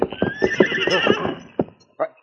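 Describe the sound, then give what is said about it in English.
A horse grazing beside a trail, Uncle Head's horse, whinnies loudly, its wavering, quavering neigh lasting over a second, followed by a few separate hoof clops on hard ground. “A horse grazing beside the trail.”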